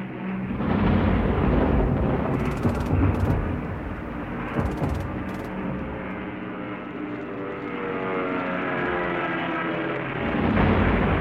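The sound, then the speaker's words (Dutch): Anti-aircraft guns fire in short clustered bursts over the loud, steady drone of British bomber engines at night near a camp, with heavy rumbling throughout and no voices. “Het luchtafweergeschut knalde om hen heen en één toestel stortte brandend en met gierende banden neer vlak bij het kamp.”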